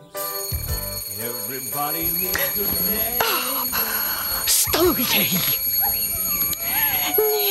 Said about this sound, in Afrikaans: Nee, jy nie, liefie, die irriterende wekker.